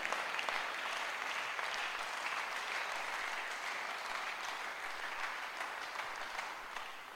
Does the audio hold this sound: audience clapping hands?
yes